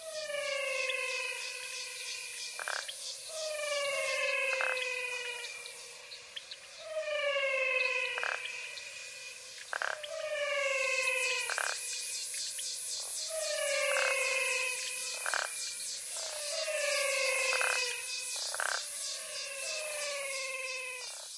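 Singing frogs call in a wetland chorus in the Pantanal: melodic, harmonic calls that glide downward, repeating roughly every two to three seconds over a steady hiss of insects. No one speaks.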